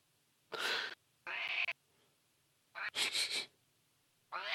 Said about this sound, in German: So, jetzt kommt der Kater und meckert rum.